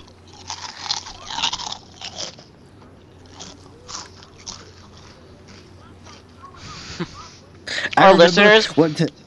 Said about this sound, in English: Our listeners are like, dude, they're weird. How come how come we have to hear them chewing and burping and stuff? Because it's fun, right?